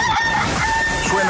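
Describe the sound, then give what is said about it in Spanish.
A rooster crows loudly, one sustained cock-a-doodle-doo filling the short moment, as the ident of the show El Gallo on Radioactiva radio, with no voices present. “El próximo jueves estaremos de vuelta con El Gallo de Radioactiva desde muy temprano y volveremos con ganas, volveremos con fuerza, volveremos a tope.”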